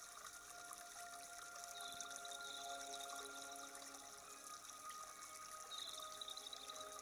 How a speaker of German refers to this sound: Vor dir die Weite des Meeres, über dir die warme Sonne, die dich angenehm wärmt, und unter deinen Füßen der Sand, der sich bewegt wie die Wellen, die deine Füße umspülen.